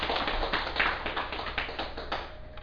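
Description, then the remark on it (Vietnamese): An audience at a dharma talk applauds with steady, dense clapping for a few seconds, moderately loud, tapering off softly at the end. No one speaks over it. “Xin quý vị vỗ cho tràng pháo tay.”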